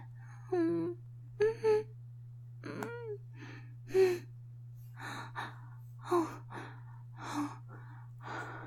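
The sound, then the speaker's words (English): Heavy, breathy gasps and exhalations, growing louder, repeat about a dozen times at an uneven rhythm, a few of them voiced, over a steady low hum. No one speaks. “Now your breathing is getting louder.”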